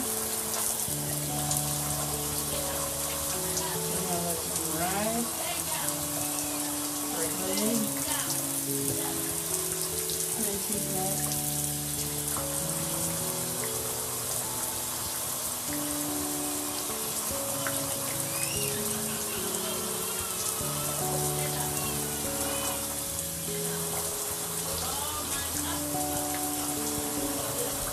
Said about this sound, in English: I'm going to shower with the rain. I'm going to do it. I just figured I'd take a shower with the rain. I'm soak up. And then come out the bathroom.